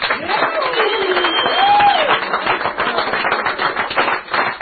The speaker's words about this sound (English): Praise God. Hallelujah. Hallelujah. Give the Lord a cheer.